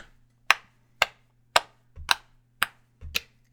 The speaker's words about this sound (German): Genau, das Ganze können wir auch ein bisschen rhythmisieren, indem wir auf unsere Oberschenkel mitpatschen.